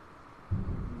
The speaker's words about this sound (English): It's the rain, it's ridiculous. Oh, did you hear the thunder? God.